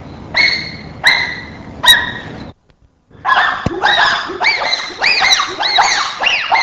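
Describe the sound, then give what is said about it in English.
Short, clipped staccato hooting calls: three spaced hoots, a brief silence, then a fast rhythmic run of choppy rising-and-falling hoots, fairly loud with no talking. “Now examples of staccato hooting, numbers 5 and 6.”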